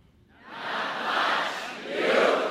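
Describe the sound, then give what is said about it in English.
A crowd of several dozen cheers and shouts together after a public radio host asks it "what do you know?" on Michael Feldman's What Do You Know? from Wisconsin Public Radio, the noise swelling in quickly and holding loud for a couple of seconds, surging again near the end. No single voice stands out from the roar. “And an obscure public radio host asked the crowd in the several dozens, what do you know?”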